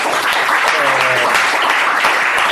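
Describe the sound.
A crowd claps steadily, a dense, even wash of many hands that stays loud throughout, with a faint voice briefly audible beneath it, welcoming an actor at a book presentation at a Feltrinelli bookstore.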